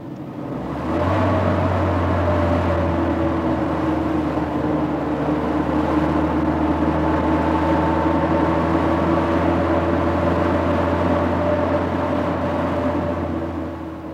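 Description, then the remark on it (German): A bus drives steadily along on its way to Tegel Airport, its engine a continuous low drone with a humming tone running over the full length, loud, without any talk. “Da müssen wir mit dem Bus zum Flughafen Tegel fahren.”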